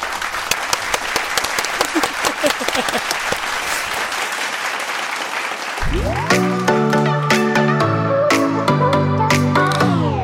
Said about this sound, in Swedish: Får jag en applåd?